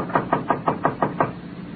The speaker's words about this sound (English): A faded sign said, La Casa Azul. She knocked on the door of room 12.